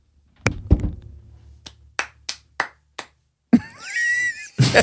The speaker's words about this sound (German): Also es ist so, ich dachte so, na gut, vielleicht mögt ihr uns hier nicht so in Österreich oder so. Aber so mies bin ich jetzt auch nicht. Nee. Weil die waren wirklich so, so war der Applaus.